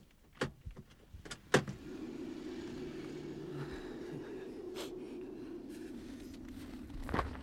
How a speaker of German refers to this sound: Ein Parkplatz zog sich länglich zu einem Aussichtspunkt hin. Hier parkte Peter den Wagen.